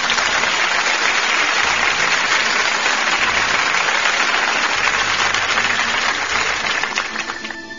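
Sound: applause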